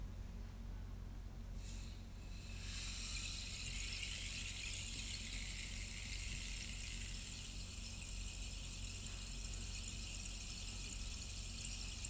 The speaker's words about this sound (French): Et vous vous laissez accompagner par cette expérience, par le bruit du bâton de pluie qui vous aide à laisser s'écouler, s'installer, s'enraciner dans votre corps.